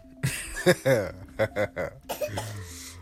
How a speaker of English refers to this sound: He coughing.